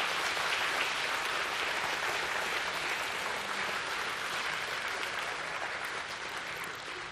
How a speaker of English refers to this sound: Well, friends, would you do us a big favor and give these folks a warm round of applause, please?